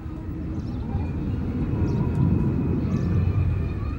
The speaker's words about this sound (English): Another 747 glides in over the Western Ghats.